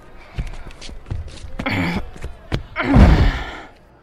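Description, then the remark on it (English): A heavy wooden bench is jammed against a door to block it: a series of dull thuds and knocks with scraping in between, ending in a louder, grinding bump as it wedges into place. “Now jam the bench in there so it blocks the door.”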